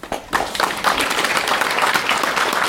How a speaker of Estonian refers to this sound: Lugupeetud saalisviibijad, kuulutan välja selle aasta merelise teo Saarema rannasõnastik minevikust tulevikku. Siin on siis meie tegijad täna. Nii et ma arvan, et üks väike aplaus.